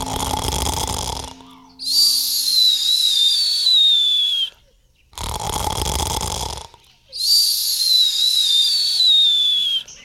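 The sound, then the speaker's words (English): A voice imitates the old gunny wolf snoring twice: each time a rough, rumbling inhale gives way to a long, airy whistling exhale that drifts slowly downward in pitch, with short pauses between. “He started to snore.”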